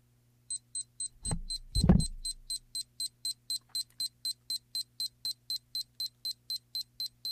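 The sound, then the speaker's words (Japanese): A digital timer, settable from 1 to 999 minutes and here set for one minute, sounds its alarm in a fast, steady series of short high-pitched beeps, about three per second, continuing throughout, with a couple of low thumps like handling noise near the start. “というふうにですね、タイマーが鳴り出しました。”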